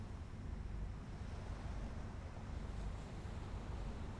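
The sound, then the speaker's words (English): Ocean surf washes against the shore in a steady, rumbling roar, soft and continuous with no distinct breaks, with a little wind. “you can hear the sound of gulls swooping in the sky above. and the waves crashing on the shore.”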